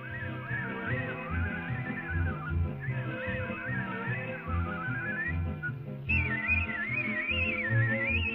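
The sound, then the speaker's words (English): A man whistles a continuous melody that glides and warbles over a steady instrumental backing, sounding multiple notes at one time, growing brighter and louder near the end. “That's like he's whistling multiple notes at one time.”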